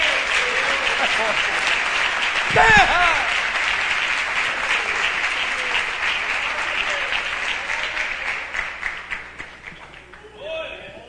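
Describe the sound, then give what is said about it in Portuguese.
An audience applauds Jesus Christ in a steady, dense wash of clapping that holds for several seconds, with a brief shout rising above it early on, then thins into scattered claps before fading. “Aplauda Jesus Cristo.”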